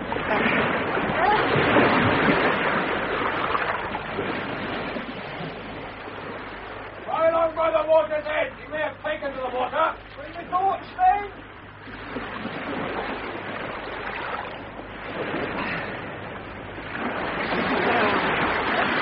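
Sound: swimming splashes in water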